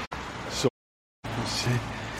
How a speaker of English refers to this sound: Go down into this area here and it'll be probably a little bit quieter as we get away from the traffic.